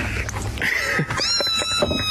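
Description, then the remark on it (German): Several kittens in a played video meow in high, thin overlapping cries as they try to crawl out, one rising and falling after another, with a steady background hum throughout. “So, wir haben jetzt die zweite, die so ein bisschen raus versucht zu kommen. Oh, sind echt süß, sieht übel aus.”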